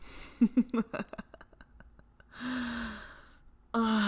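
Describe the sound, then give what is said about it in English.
A few sharp, quick gasps of shock come in close succession, followed by longer, breathy voiced exhalations. The sounds are fairly loud and the only thing heard, with no talking. “It's no use gasping in shock now.”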